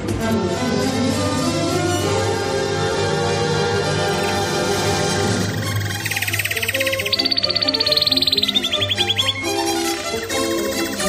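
A loud, busy musical jingle introducing a news item, whose middle section carries a rapid, high-pitched bird-like trill for a couple of seconds before the full music returns. No one speaks.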